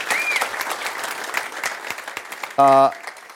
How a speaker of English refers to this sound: Let's give him a little bit of a round of applause.